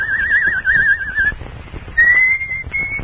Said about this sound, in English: Oh, hush. You don't like the bird's song, sir? The bird? I thought it was my own mind. But that's the song I've been hunting for. But who taught it to him?